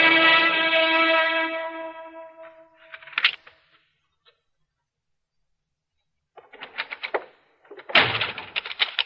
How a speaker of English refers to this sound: The door just slipped out of my hand. That's all that happened. You nearly broke it off.